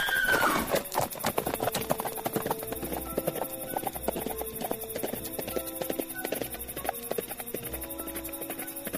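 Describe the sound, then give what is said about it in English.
Thundering hoofbeats of the stallion Silver pound in a fast, steady galloping rhythm, loud and continuous, opening with a brief high whinny while tonal music plays underneath. “Dade heard the thundering hoofbeats and turned to look over his shoulder.”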